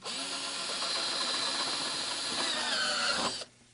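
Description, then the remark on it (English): A power drill whirs loudly and steadily for about three and a half seconds, drilling holes, then cuts off abruptly. No one speaks. “What's happening is I keep drilling holes.”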